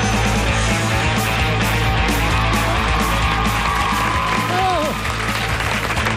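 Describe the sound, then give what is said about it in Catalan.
An audience at Pompeu Fabra in Sants applauding steadily for several seconds, a loud, dense wash of many hands clapping, with faint voices and a brief rising call mixed into the crowd noise. “Aplaudeixen des del Pompeu Fabra de Sants.”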